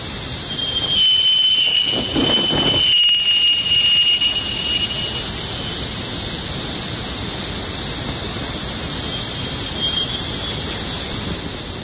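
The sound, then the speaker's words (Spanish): Jupiter's radio emissions, called whistlers, rendered as sound: a steady, loud wash of hissing static with a thin high tone running through it and a few crackly surges in the first seconds. No one speaks. “Los llaman los whistlers, los silbadores.”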